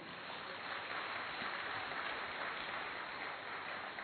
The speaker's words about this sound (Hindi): तो आप अपने लिए ताली बजाइए।